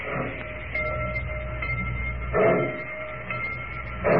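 A train pulls out of a station in the town of Rocky Point with a steady mechanical rumble, broken by two louder hissing bursts partway through and near the end. No one speaks.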